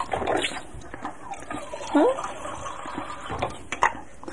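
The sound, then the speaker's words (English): Fresh water is poured into a small paint water container, a steady splashing and trickling that runs for a few seconds, with soft voice-like sounds mixed in partway through. “Here's the water. Let me get some fresh water here.”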